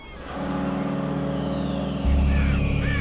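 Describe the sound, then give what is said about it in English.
Birds call and caw over a heavy, steady low rumble that grows louder partway through, with scattered cries drifting across the top of the dense noise. “Send the birds away, Soleil.”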